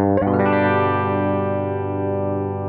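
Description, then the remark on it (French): A single electric guitar note, a G, picked on the treble humbucker pickup and played live into an audio interface, left to ring with a bright, harmonically rich, slightly gritty tone that sustains steadily and barely fades. No voices. “Je viens de faire un sol et vous voyez qu'on a beaucoup de sustain, que ça sonne encore.”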